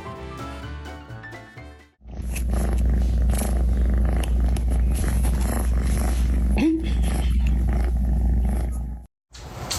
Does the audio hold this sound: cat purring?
yes